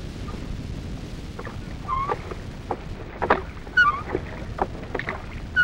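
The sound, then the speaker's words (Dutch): Oars creak and splash as a small boat is rowed, with a steady low water rumble and irregular knocks and squeaks from the oarlocks. Nobody speaks. “Heb jij een paar prachtige riemen? Ik zal me er niet kapot op roeien, dat weet ik wel.”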